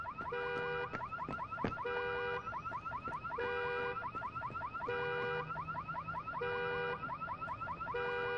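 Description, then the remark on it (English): A car alarm blares loudly and without pause, cycling through rapid whooping sweeps, chirps and steady electronic tones in a repeating pattern roughly every second and a half, with no one speaking; the car's door is open. “It seems that they've stolen a car or something.”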